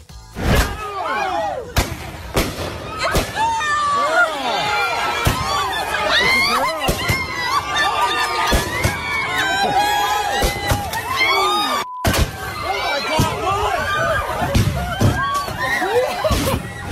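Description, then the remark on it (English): Sharp fireworks explosions crack loudly, repeatedly and irregularly, going off in every direction, while a crowd shouts and screams excitedly throughout, voices overlapping between the bangs. “That sounds, it sounds like gunshots. No, they're fireworks. They're definitely fireworks.”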